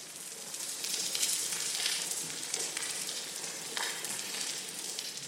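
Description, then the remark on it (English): A sparse underwater soundscape of a degraded coral reef, as heard at most coral reefs today: steady, soft crackling and hissing, like faint frying, with a few brighter snaps here and there and no calls or voices breaking through. “If you were to go to most coral reefs today, you'd hear something like this.”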